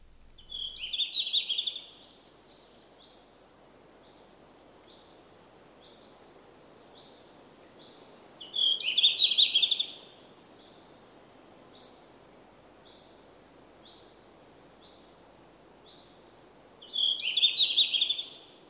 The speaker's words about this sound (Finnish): Viikon luontoääntelijä on tällä viikolla Sini Pyrstö.